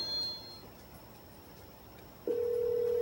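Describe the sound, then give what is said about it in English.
After a quiet, hissy stretch, a phone call's ringback tone begins through a small Bluetooth speaker: a single steady electronic tone that comes in abruptly and holds loud until the end, with no talking. “It's ringing? It does ring a few times.”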